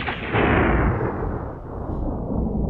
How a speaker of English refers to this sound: on the horizon dark clouds are gathering with distant thunder.